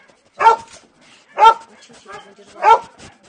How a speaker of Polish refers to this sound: I ten jest młody, prawda? To jest młody pies dwuletni.